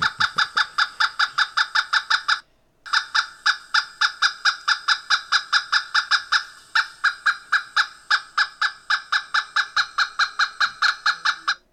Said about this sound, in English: let's listen to a pileated calling.